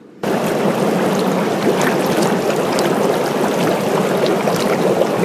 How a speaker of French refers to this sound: As-tu deviné ce que c'était ? C'est le doux bruit de bulles d'un jacuzzi où je me trouve actuellement à me prélasser.